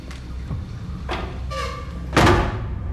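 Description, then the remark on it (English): A man goes into a cubicle and pushes the door shut with a soft creak and a scrape, then it bangs closed with a loud, resonant thud, all over a low rumbling background. “Satisfied, he chooses a cubicle and, smiling to himself, goes inside and shuts the door.”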